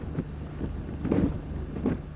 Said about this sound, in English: Andy Revkin treading on thick ice in the Arctic. That's his sound clip.